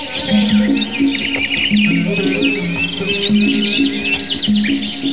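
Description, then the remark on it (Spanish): A dense chorus of birds perched in the green shade of leafy trees, chirping and singing, many overlapping trills and tweets filling the air continuously, with a low repeating tonal hum underneath. “Se posaban a su sombra verde y desde allí cantaban lindas y dulces canciones.”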